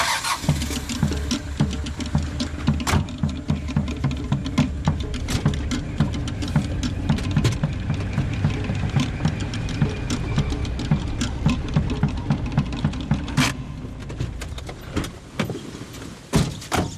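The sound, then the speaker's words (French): The rough, rumbling engine of an old 4x4 runs steadily while driving in French Polynesia, with low rhythmic chugging and scattered rattles and clunks over the drone, no voices present. “On va prendre le vieux 4x4, on y va.”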